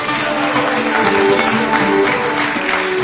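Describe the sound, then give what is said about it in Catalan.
A steady burst of audience applause for a storyteller joining the programme, dense clapping from many hands that holds at an even, fairly loud level for about three seconds, with a faint tonal hum beneath it. “També té cinc d'aplaudir, sisplau.”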